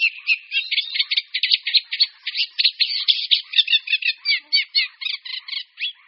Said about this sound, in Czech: Rákosník obecný je nejhojnějším ze čtyř druhů našich rákosníků. Žije skrytě uvnitř hustých porostů. V hnízdní době ho zastihneme především v rákosinách a porostech orobince při březích rybníků, na slepých říčních ramenech